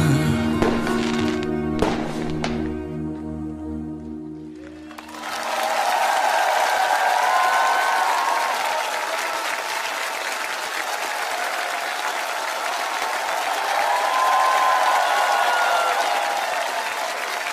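A few seconds of sustained musical chords end a singer's performance and give way to loud, steady audience applause, a dense crackle of many hands clapping that continues without pause to the end.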